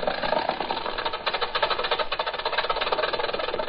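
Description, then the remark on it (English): An old-fashioned car engine runs steadily, a fast, even mechanical clatter that chugs on without pause for a few seconds, fairly loud and with no voices over it. “But that was long ago, and today it sounds pretty old-fashioned when you compare it with a modern car.”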